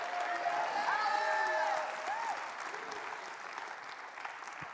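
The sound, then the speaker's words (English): An audience claps and cheers together to welcome new members into the family of God, a dense wash of applause with scattered whoops and raised voices, strongest at first and gradually thinning out. “Let's clap, everybody, one more time. Just shout hallelujah.”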